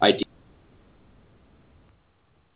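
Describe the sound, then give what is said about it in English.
A single abrupt sneeze bursts out loudly at the very start and cuts off within a quarter second, leaving only faint, steady background hiss for the rest. “Bless you”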